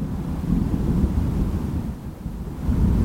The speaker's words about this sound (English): Can you hear that thunder?